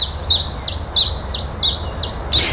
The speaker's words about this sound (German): Und dann gibt es ja diesen kleinen Herrn, kleine Frau, über die wir heute sprechen wollen, einen Zilpzalp. Ja, wir hören ihn mal kurz.